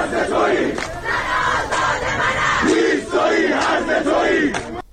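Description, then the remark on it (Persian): A large crowd of protesters chants slogans in unison near Behesht-e Sakineh cemetery near Karaj, Iran, at a fortieth-day mourning ceremony for those killed in recent protests, loud and steady, with rhythmic surges of many voices and sharp bursts of shouting through the noisy din. “در تصاویر منتشره سر دادن شعار و شلیک گاز اشکاور و تیراندازی به سوی معترضان دیده می‌شود.”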